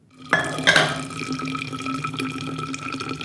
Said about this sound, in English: pours coffee from a brown thermos as she eyes the time on her phone.